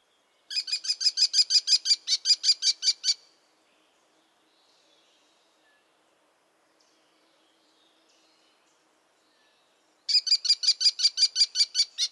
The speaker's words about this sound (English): The American Kestrel is one of the few hawks that you can actually tell the sexes apart. The males have blue-gray wings, and the females are just brown.